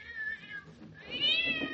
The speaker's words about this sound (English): That cat sounds as if it's under the bed.